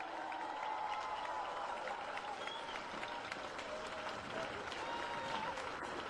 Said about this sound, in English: as I look up Swanston Street and look out on all you wonderful people out there, I gotta say yet again how proud I am of the warriors of the Aboriginal resistance, the organisers of this here rally today. Give them a big cheer, folks.